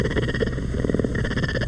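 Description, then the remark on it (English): A puma, or mountain lion, purrs in a steady, throaty rumble, loud, with a fast regular pulsing texture that runs unbroken from start to finish. “And this is the purring of the puma or mountain lion.”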